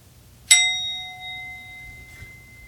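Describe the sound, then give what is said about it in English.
A single meditation bell is struck once, ringing out clearly with a bright, pure tone that slowly fades over a couple of seconds against a quiet, faintly rumbling background. “So looking within, where exactly is the mind that hears the bell?”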